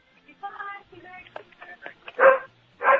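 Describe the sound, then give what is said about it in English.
A dog barks several times in sharp bursts, with the two loudest barks near the end, over faint background voices. “Hey, is that your dog?”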